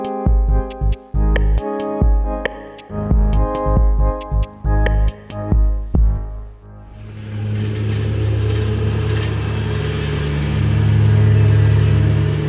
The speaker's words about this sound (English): It's the springtime, and most of us have rolled out the lawnmower or heard that telltale noise.